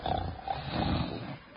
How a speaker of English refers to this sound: I've just put on this record of royal snoring.